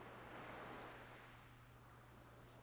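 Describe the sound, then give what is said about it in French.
Ocean surf washes in a steady, broad hiss, swelling briefly and then easing back, with a faint low rumble beneath. Nobody speaks. “Avec les vagues qui montent et qui redescendent, qui lavent le paysage.”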